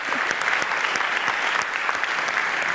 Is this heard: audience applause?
yes